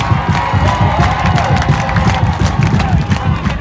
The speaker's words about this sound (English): The space has just erupted. Full time. And Bangkok are your champions. Come on. Listen to the celebrations.